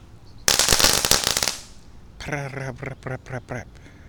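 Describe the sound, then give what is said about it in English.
A crackle bomb firework, lit and thrown onto the grass of a yard, sizzles in a dense burst of rapid pops and crackles for about a second, then fades as a person starts talking. “Don't fly into my fireworks, Mr. Bumblebee. He's probably just getting calmed by the smoke.”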